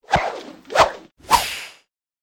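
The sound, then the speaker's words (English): Three quick whooshes of someone swinging through the air on a rope tied to a ship's mast, evenly spaced, each a breathy rushing swish that fades, with no voices. “The captain grabbed hold of a rope tied to the mast and swung across to the whale.”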